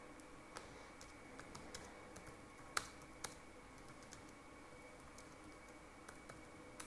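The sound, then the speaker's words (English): Quiet, irregular clicks of someone typing on a computer keyboard, with a few sharper keystrokes standing out over a low background hiss and no one speaking. “It's just me typing.”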